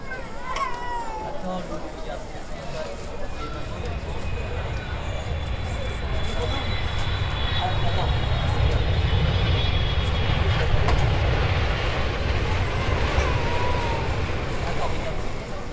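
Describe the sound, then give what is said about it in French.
Steady, loud drone of a small aircraft engine heard from inside the cabin, which has no fiberglass or sound-absorbing insulation, a deep rumble with a faint high whine running through it and no pauses. “on est en première loge du moteur”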